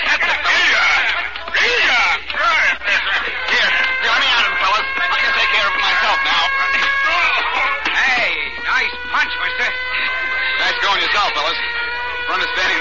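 Harsh, raspy bird squawks run almost nonstop for about thirteen seconds, loud and nasal, with pitch sliding up and down between bursts.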